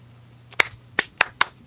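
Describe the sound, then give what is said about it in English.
A single person clapping, with five sharp hand claps at a slightly uneven, unhurried pace and a low hum in the background. “Are you applauding?”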